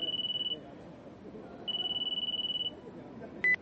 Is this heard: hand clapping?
no